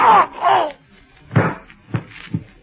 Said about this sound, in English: Springing forward, Candy Meyer's hands are closing around the masked man's arms as the gun fires. The private detective groans and slumps to the floor, where he lies motionless.